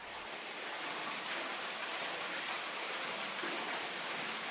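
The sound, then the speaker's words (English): A steady, dense roar of falling water pours continuously from start to finish, a broad hissing wash from an underground waterfall in a cave passage, one of the deepest parts of Buckner Cave in the Garrison Chapel Valley southwest of Bloomington, Indiana, with no voices. “Here's a recording of Buckner's waterfall passage, which is one of the deepest parts of the cave.”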